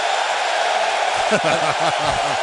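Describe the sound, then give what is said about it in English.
A loud baseball stadium crowd roars at pitcher Cueto in a steady, dense wash of noise, with a voice briefly rising and falling over the din in the second half. “Listen to how loud they are.”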